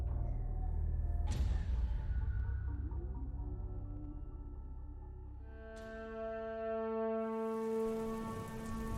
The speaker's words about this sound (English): It was raining when I went out to the beach last night, but it was a light rain